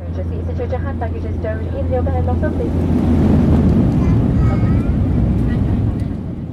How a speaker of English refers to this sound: But at the moment, though, Spaceport Cornwall looks no different to Newquay Airport, as I discovered when coming into land on a Flybe plane.